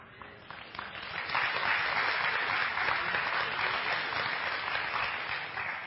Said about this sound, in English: People are looking around to see who's applauding at what point so they know who stands where. Who's in my camp?